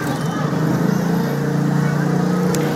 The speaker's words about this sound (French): Et si vous entendez le bruit du trafic, eh bien, c'est normal, puisque cette bibliothèque, elle se trouve nichée sous une voie rapide, sous un pont autoroutier à Jakarta, méga capitale de l'Indonésie.